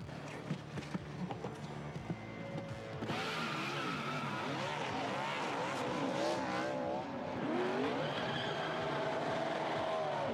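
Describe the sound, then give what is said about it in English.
A car is driven in with a loud, continuous engine roar, its pitch wavering up and down alongside squealing tires. The sound swells after a quieter, rumbling start. “Go get the car and bring it over.”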